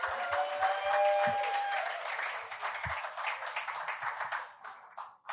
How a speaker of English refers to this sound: Good morning, church. Please, a round of applause for our panelists.